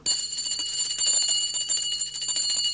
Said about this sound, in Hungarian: Az atyám csenget. Nekem mennem kell.